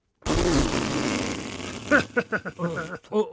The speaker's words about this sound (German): Ich kann aber auch Body Percussion, Musik machen mit dem ganzen Körper.